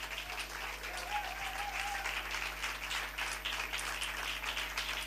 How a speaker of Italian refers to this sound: Applauso molto più lungo rispetto alle altre volte, quindi già si inizia bene, perché l'applauso è molto più lungo.